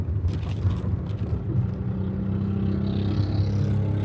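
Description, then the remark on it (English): A loud motorcycle engine rumbles, a deep steady drone with a slight rising whine toward the end as it passes, with no talking over it. “Wow, that was a really loud motorcycle.”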